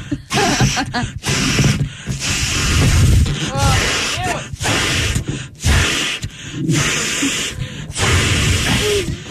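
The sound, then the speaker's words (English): Repeated strong, breathy bursts of air are pushed into a balloon, separated by short gasping pauses, with occasional high rubbery squeaks as it stretches. Voices murmur faintly underneath. “How's this thing not popping yet? Size of a hot air balloon.”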